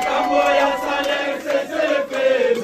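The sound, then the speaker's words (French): A crowd of protesting teachers in Congo sings revolutionary songs and shouts cries of anger together in a loud, sustained chant, with wavering pitched tones and rising cries over steady group noise. “Chansons révolutionnaires, danses, cris de colère, les enseignants ont tout mis en contribution au cours de cette journée pour interpeller une fois de plus les gouvernements à améliorer leurs conditions socio-professionnelles.”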